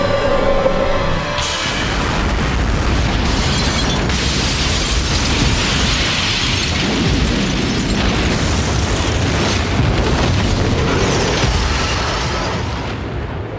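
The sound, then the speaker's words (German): A large explosion blowing up a building, McWürge und Co., erupts after a brief lead-in, then a long, loud roar of rumbling and crackling debris continues for over ten seconds before slowly easing off. No one speaks. “flog förmlich in die Luft.”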